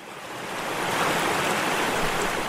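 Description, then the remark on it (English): A steady, full rush of flowing water from a creek or small river flowing through a forest or a glade of trees, swelling slightly in the first second and then holding even, with no voices. “Picture yourself standing by a creek or a small river flowing through a forest or a glade of trees.”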